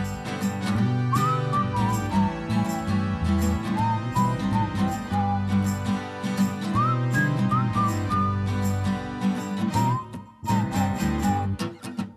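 Bird-of-paradise song rendered as a bright, warbling whistled melody, rising and falling in short phrases over a steady, full instrumental music backing; no voices.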